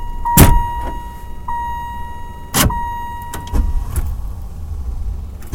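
A car starting up and pulling forward to move up so a roommate can get out, with a low engine rumble throughout, a couple of sharp mechanical bursts, and a steady high electronic tone running alongside. No talking.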